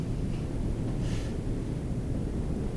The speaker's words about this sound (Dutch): De wind. Wat voor reactie komt er? Oeh, wel harde wind.